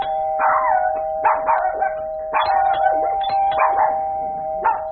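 A dog barks in repeated sharp bursts, about six over a few seconds, loud, while a steady ringing tone sustains underneath.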